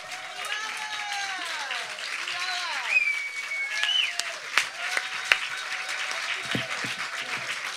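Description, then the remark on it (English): An audience at a live music show breaks into sustained applause for the musicians, dense clapping for several seconds, with scattered whoops and cheers rising above it and a few sharper claps standing out. “And another round of applause for all of the lovely musicians from tonight.”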